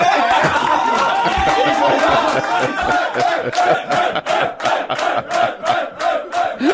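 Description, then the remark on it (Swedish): A small group erupts in loud, wild cheering and whooping, with a dense roar at first that breaks into rhythmic, pulsing shouts toward the end. “Det är liksom, grottmänniskorna liksom, topplocket bara går. Det är jubel.”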